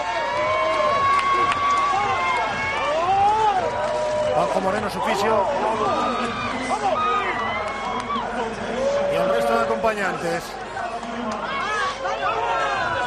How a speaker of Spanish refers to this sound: Esos son los gritos del banquillo de Carlos Alcaraz y del propio Carlos.